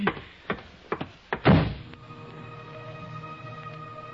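A door is handled: a few sharp clicks and knocks from the latch, then a heavy thud as it shuts, followed by a quiet hum.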